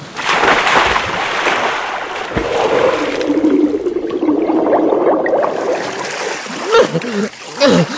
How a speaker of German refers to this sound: Und jetzt nur noch über die Bordwand klettern und ab ins Wasser. Und hopp!